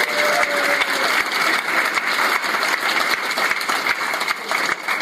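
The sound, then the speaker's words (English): Sustained audience applause fills the whole stretch, a dense, steady wash of many hands clapping at an even, fairly loud level with no voices standing out. “Let's hear it for Wade, everybody.”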